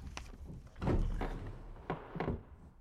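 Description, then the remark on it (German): A wooden desk drawer slides open with a low rumbling scrape, followed by a few knocks and thumps of things shifting inside, moderately loud, with no voices. “Als erstes sollten wir dort den Schreibtisch untersuchen. Mal sehen, was sich in den Schubladen befindet.”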